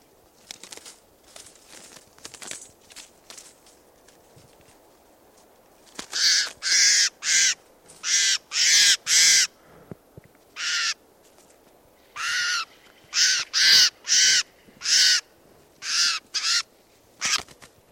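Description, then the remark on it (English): A crow caws repeatedly in loud, harsh bursts, often in quick pairs and triplets, after a few fainter calls at the start. No one speaks. “Testing now, bird.”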